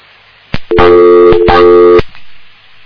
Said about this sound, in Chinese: 这个电话有问题，我们这电话有问题。还是有啊，就是人家加号音啊，怎么会这样的？这影响质量的。